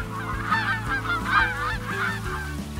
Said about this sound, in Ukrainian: Гуси лебеді не побачили, пролетіли повз.